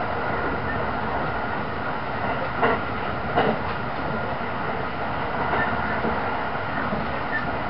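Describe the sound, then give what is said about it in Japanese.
The Limited Express Thunderbird No. 50 train, bound for Osaka, runs on rails with a steady, loud rumbling roar, broken by a few sharp metallic clacks from the wheels around the middle. No one speaks. “今日は特急サンダーバード50号をご利用くださいましてありがとうございます。”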